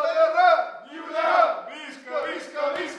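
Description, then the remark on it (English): A crowd of people in a bar cheers and shouts together in a loud, sustained roar, rising and falling in waves over a few seconds, as the barman turns on the TV when the polls close in Scotland, cheering for Scottish and Catalan independence. “As the polls close in Scotland, the barman turns on the TV and the crowd cheers for Scottish and Catalan independence.”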